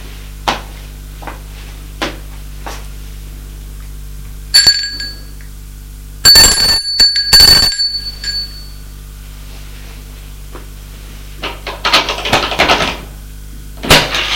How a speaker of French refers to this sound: Arrivé au 3e étage, il va sonner à la porte de droite.